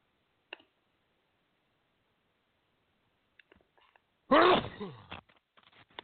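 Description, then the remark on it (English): A single loud sneeze bursts out after a few seconds of near silence, preceded by small clicks and breathy sounds and followed by faint rustling. “Pardon me, I'm going to sneeze.”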